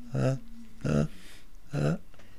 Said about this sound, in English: Bless you. There's probably another one coming, but I'm going to just keep going.